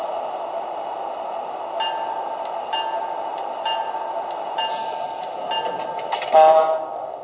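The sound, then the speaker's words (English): A passenger train, train number 82, the Silver Star from Washington, rolls into Baltimore station on track 1 with a steady low rumble, rhythmic clicking of wheels over rail joints, and a brief high brake squeal near the end. “Now arriving on track 1 from Washington, train number 82, the Silver Star.”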